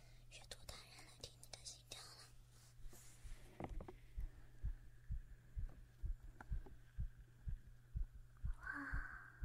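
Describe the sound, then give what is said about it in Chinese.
A person's heartbeat, being listened to, thumps steadily in a regular rhythm over a low constant hum, after some soft rustling and breathy whispering noise at the start. “来听听你的心跳了。”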